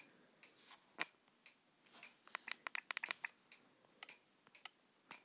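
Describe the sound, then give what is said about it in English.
Soft ticking of a clock, a series of sharp little clicks that come unevenly, bunching together in the middle. It's quiet and there's no talking. “ASMR test. Eating chips. Clock ticking.”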